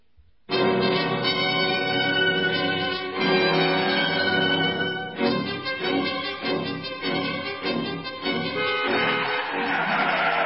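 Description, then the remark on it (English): A car skids to a sudden stop in front of a man standing in the road, with a loud, sustained tire screech lasting several seconds, wavering in pitch before breaking into a rougher scraping noise. No one speaks. “What do you mean by standing in front of my car? You might have been killed.”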